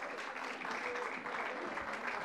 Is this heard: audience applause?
yes